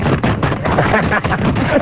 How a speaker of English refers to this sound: Rustling the fax so you know that it's here.